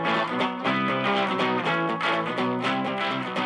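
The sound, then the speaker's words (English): A loud, dense stretch of a band's rock song built on heavily distorted guitar chords that start in A and shift up and back down in a steady rhythm, with no voices. “That's a … song. It starts in A and winds up and comes back down.”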